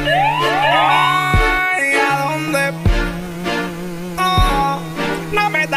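A wailing, siren-like tone sweeps upward several times at the start, then continues over a music track with heavy bass hits and sustained synth chords.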